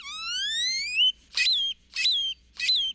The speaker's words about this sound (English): Or jumbled and metallic, like this great-tailed grackle's.